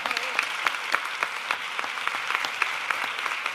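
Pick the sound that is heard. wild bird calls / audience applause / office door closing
audience applause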